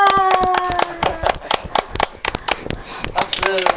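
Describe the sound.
Hands clap in a rapid, uneven burst, dozens of sharp, bright smacks that keep going throughout, with a voice talking or singing underneath at the start and end.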